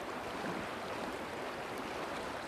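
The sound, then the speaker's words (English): A steady, even rush of running water in Currungo Creek, a trout creek, flowing continuously, moderately quiet with no voices. “Chasing trout in Currungo Creek is one of his great joys.”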